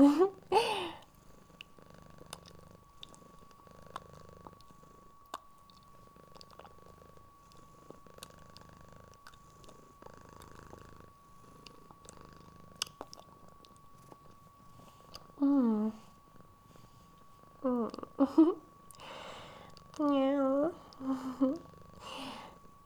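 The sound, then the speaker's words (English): A person imitates a cat grooming itself, making soft, steady licking and purring noises, then a few louder, wavering mew-like hums near the end. “I have to groom myself now. Like a proper kitty.”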